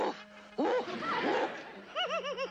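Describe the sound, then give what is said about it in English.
A woman under hypnosis imitates a big dog barking: a drawn-out vocal woof, then a quick rhythmic string of about five short, yappy barks. “You are a big dog, …. Now bark.”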